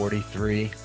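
burp

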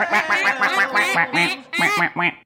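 duck quack sound effect

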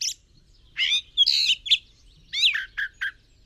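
jay calling

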